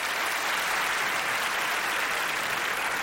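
An audience at the taping of a comedian's stand-up special, recorded as an album, claps steadily for about three seconds when asked to clap if married, a dense wash of many hands with no break in the sound and no voices over it.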